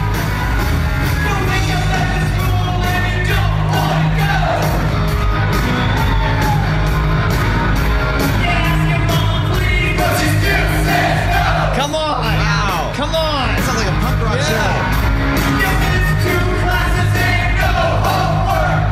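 A loud live band, playing backup, performs amid a boisterous concert crowd, with yells and whoops rising over the music throughout and the crowd joining in on the chorus. Raw audio recorded on a cell phone and posted on Facebook; the sound is dense and slightly distorted.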